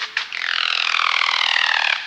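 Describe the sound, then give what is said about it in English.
A male Highland Guan's territorial wing display in the cloud forest of El Triunfo Biosphere Reserve: a dry, rapidly pulsing whirr that holds steady for about a second and a half after a brief click, then cuts off, with no voices. The bird glides from a tree branch on vibrating wings. “Looking like a slim turkey, 2 feet long and all black, the Highland Guan perches on a tree branch, whistles, and then glides on vibrating wings.”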